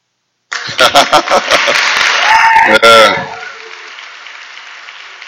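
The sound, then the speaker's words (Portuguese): A burst of audience applause starts abruptly, dense rapid clapping with voices cheering over it, then drops after a few seconds to a softer, fading wash of noise. “Enquanto houver biba, haverá palmas.”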